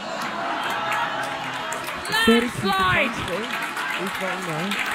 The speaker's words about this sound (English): Landslide! Look at you clapping, baby.